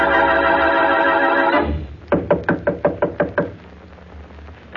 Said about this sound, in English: With him, as he knocks on Mary Wesley's door, is the dead man's sister.